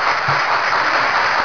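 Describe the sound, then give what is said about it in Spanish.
Sustained audience applause after a song performance, a dense steady wash of many hands clapping at once, loud and even throughout with no voices standing out. “Pues nada, esto que se merece otro aplauso, otro aplauso.”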